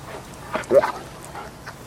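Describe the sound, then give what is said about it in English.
A scruffy, too thin German shepherd with a matted black coat gives a brief burst of soft barks that trail into an anxious whimper, moderately loud, with a faint whine afterward against a quiet background. “She is still on the step when the dog pads tentatively out of the trees. It is a scruffy German shepherd, too thin, with a matted black coat.”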